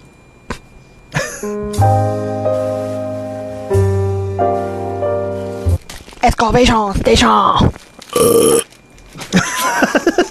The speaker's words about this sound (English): I didn't get to do the chicken face on the burp.